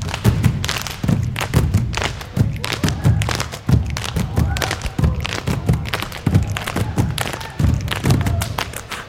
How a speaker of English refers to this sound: Black Grace is performing a piece based on the traditional ideas of Samoan slap dancing. Dancers make sky-high jumps and quick turns to create complex rhythms of floor stomping, cries, and body slaps.